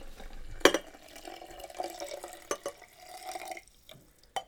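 Hot water, no longer quite boiling, pours steadily from a jug into a vessel for a few seconds with a gurgling, filling sound, punctuated by a few sharp clinks of ceramic or glass.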